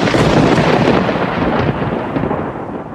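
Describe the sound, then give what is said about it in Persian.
Loud, rolling thunder rumbles continuously for the whole stretch, a dense, heavy roar that dips slightly in strength partway through, with no voices present. “و از نشانه هایش این است که برق آسمان را به شما نشان می دهد که هم مایه امید است برای آمدن باران و هم باعث ترس و وحشت شماست به خاطر صاعقه های مرگوار.”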